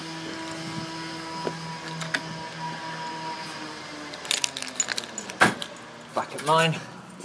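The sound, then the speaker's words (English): Keys jangle and clink in a cluster of sharp metallic bursts during the second half, rattling against a door lock as someone tries to unlock it and the key fails to open it, over a steady low droning engine hum that runs throughout. “My key didn't open.”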